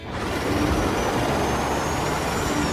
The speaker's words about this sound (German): Und föhnen. Ich trockne dich im Nu.